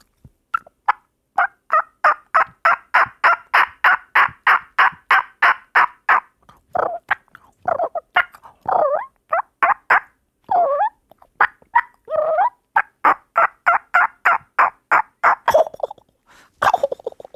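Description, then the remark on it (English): A person imitates a wild turkey by mouth with no call, diaphragm or latex, a long run of rapid, rhythmic yelps and gobbling bursts, loud, with some rough warbling notes mid-sequence before the quick yelps resume. “Hit me with a beautiful turkey call.”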